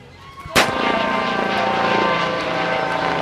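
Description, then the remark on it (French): A sharp bang at the start, then a loud, steady roar of a SAMU emergency medical helicopter with a droning engine whine holds for a few seconds as it passes overhead. No voices. “On voit au-dessus de nous un hélicoptère du SAMU qui passe au-dessus.”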